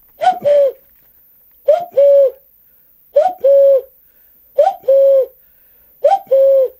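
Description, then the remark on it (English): A man's voice imitates a cuckoo, repeating the two-note 'cu-ckoo' call five times at a steady pace, loud, with short pauses between each pair of notes. “This is …'s cuckoo. I mean, it's himself mimicking a cuckoo.”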